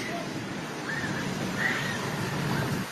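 A steady, loud roar of rushing floodwater from a sudden massive wave fills the whole stretch without a break, with faint human cries and screams of people running rising briefly above the churning noise.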